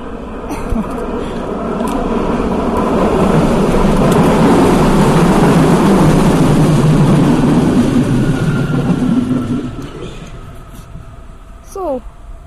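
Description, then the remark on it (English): A train rumbles past overhead on a track about 4 meters above, its loud, steady roar swelling over a few seconds, holding, then dropping away, followed by a brief voice at the end. “She's looking up at the train, or where the train was. It's like these 4 meters above us.”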